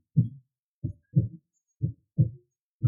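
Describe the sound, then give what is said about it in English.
A faint, muffled heartbeat of an unconscious woman with a weak pulse, heard with an ear against her chest: soft low thumps, about six over a few seconds, in a slightly uneven lub-dub rhythm, with no voices. “Breath bated, he finally finds her heartbeat in her lungs.”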